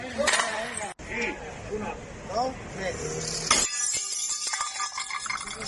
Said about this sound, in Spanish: Son los hosteleros que están hartos de pagar los platos rotos y hoy los han roto. Los han roto en Madrid y los han roto en Murcia y en Logroño y en Pamplona y en Bilbao, Sevilla, Valencia, Alicante o los han roto también, miren, en Segovia.